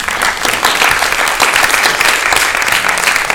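Sustained audience applause at the end of a first presentation, a dense, steady patter of many hands clapping at an even, fairly loud level throughout, with no voices standing out.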